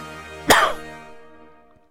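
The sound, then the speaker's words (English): A single harsh, raspy dog cough bursts out loud, then trails off into a fading wheeze. There is no talking. “If your dog is coughing, he's coughing for a cannoli.”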